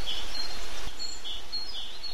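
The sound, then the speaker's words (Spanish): Several small birds chirp and twitter in the tree opposite, heard through an open window in strong sunshine, short high-pitched calls scattered over a steady outdoor hiss, with no voices. “Abro la ventana y oigo el piar de los pájaros en el árbol de enfrente.”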